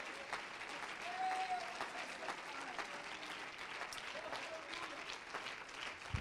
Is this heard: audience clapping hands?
yes